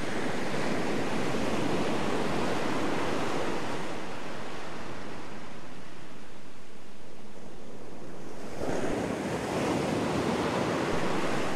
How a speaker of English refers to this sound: Feel the beauty and the majesty of the ocean rising from all around you. Notice that the air is thick with the spray and fragrance of the ocean.